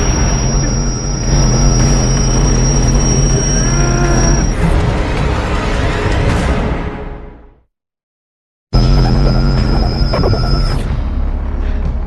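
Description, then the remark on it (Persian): A sonic blast device being tested blares a loud, harsh blast continuously with a piercing, wavering screech, fades and cuts off into a second of silence, then abruptly fires again at full strength. “برای امتحان این دستگاه انفجار صوتی نیاز داشتم نزدیکتر بیام.”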